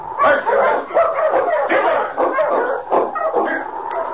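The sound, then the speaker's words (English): A pack of sled dogs barks and yips excitedly, a dense overlapping chorus of sharp, high-pitched calls that continues steadily and loudly without pause. “Take charge of your dogs, Joe.”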